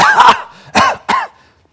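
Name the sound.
cough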